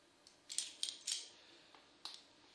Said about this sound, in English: I've got in my pocket here, I've got my car key, I've got the front door key, two front door keys, and I've got the church key, the inside door church key.